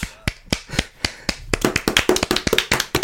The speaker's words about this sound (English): Wonderful. I'm going to clap.